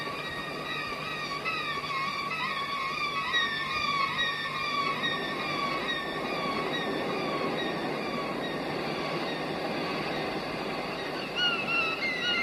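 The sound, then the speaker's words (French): Violinist Didier Locoud plays a violin imitating a seagull's cry, his specialty, with high, wavering glissando tones that swoop and slide repeatedly over a steady bed of scratchy bow noise, fairly loud and continuous with no talking. “Elle peut aussi imiter le cri de la mouette, ce qui est d'ailleurs la spécialité de mon invité.”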